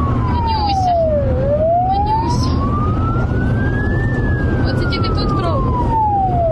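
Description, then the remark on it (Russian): An ambulance siren wails loudly as the ambulance urgently carries a two-month-old baby to hospital, its pitch sweeping slowly down, up and back down in long glides over a steady rumble of traffic and engine noise. “Ювенальные полицейские в карете скорой помощи срочно доставляют в больницу двухмесячного ребенка.”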